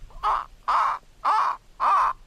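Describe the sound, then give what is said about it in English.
A bird calls four times in a steady rhythm near a pond at a home in Connecticut, each call a loud, harsh, raspy caw, with short quiet gaps between and no voices. “It goes from birds to amphibians, amphibians to birds.”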